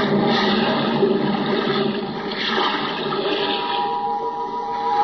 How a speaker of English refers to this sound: Now, hoist you up and overboard and dive with your equipment well in hand into the sea and under it.